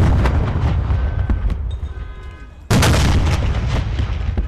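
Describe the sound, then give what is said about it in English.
Loud cannon fire at the reopening of an officers' club: a heavy rumbling boom trails off, then a second powerful blast erupts suddenly and roars on with a thick, crackling echo. “That's why cannon fire was heard at the reopening of the officers' club.”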